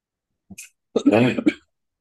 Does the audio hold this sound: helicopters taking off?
no